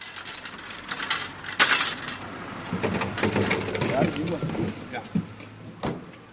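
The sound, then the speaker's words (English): Plastic water tankards thump and clatter as a man helps load them into the trunk of a car, with several sharp knocks and rattling handling noises while people talk in the background. “thanks a man for helping him to pile tankards into the trunk of his car.”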